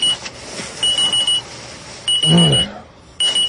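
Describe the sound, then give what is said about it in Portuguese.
An alarm clock rings in repeated bursts of rapid high-pitched beeping, loud, with a brief low groan between bursts. “Se o cara que inventou o despertador bebesse Skol, ele não seria assim.”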